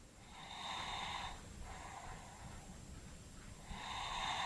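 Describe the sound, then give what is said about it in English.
Soft, rhythmic breathing of a sleeping boy at 2 a.m., with airy snoring inhalations rising and falling in slow cycles, quiet and steady with no voices. “The first thing I heard was the sound of my son sleeping peacefully.”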